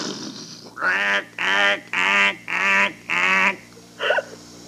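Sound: duck quacking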